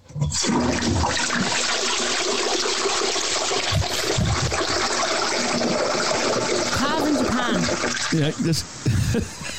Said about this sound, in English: That to me sounds like a toilet flushing. A toilet flushing, yeah.